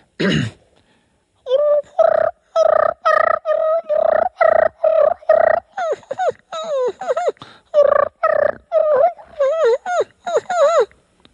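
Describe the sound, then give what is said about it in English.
A loud turkey fighting purr made with a call by a contestant in a calling contest, imitating two gobblers or two hens meeting: rapid rattling bursts of raspy, pulsing purrs and sharp yelps tumbling over each other for about ten seconds, no talking. “Contestant number one, can we please now hear your fighting purr?”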